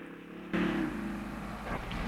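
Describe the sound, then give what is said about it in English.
A people carrier's engine starts up loudly after a quiet moment, then keeps up a steady low rumble with a faint rising whine as it reverses out of its parking spot in an airport car park. No one speaks. “The people carrier reverses out of its parking spot.”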